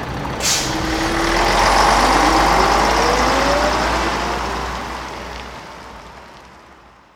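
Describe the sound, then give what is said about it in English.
A bus engine on a trip to Uppsala rumbles steadily, with a short sharp hiss of air brakes near the start; the drone swells, then gradually fades as it pulls away. “I traveled to Uppsala by bus.”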